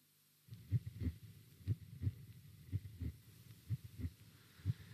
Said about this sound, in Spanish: Se oye el latido de su corazón. Su corazón. Late, segundo tras segundo,